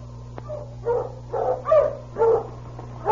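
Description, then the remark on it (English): Sergeant Preston's sled dog team, driven at a fast pace on the road from Dawson City to 40 Mile, barks and yelps in a quick, uneven series of about five calls, moderately loud, over a steady low hum with no talking. “Sergeant Preston of the Northwest Mounted Police had left Dawson City and was driving his dog team at a fast pace on the road to 40 Mile.”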